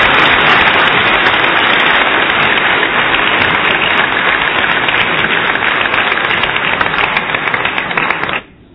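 A large audience claps, at the host's request, to welcome an arriving guest, in a dense, steady roar of applause for about eight seconds, holding an even loudness before cutting off abruptly. No voices are heard.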